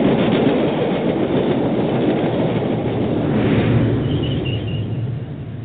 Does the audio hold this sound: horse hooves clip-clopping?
no